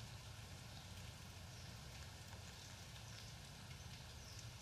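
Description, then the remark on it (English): Steady rain falls continuously with a soft, even hiss and faint pattering droplets throughout, fairly quiet and with no voices. “What should we do without the rain?”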